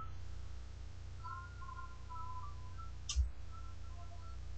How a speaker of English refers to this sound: So what I'm going to do is I'm going to press reset with dots 456 JKL, and you should hear. The startup music. And you should hear double beeps.